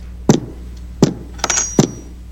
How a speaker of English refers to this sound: I had to bang my head in the wall, sorry.